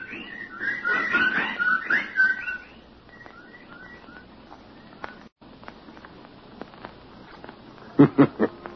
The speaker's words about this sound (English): The birds.